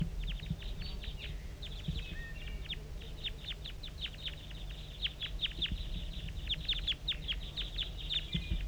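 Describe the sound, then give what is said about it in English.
Decoy birds calling in a busy stream of short, high chirping notes, repeated rapidly and almost without pause over a steady low rumble. No one speaks. “We're getting a lot of calling from the decoys right now.”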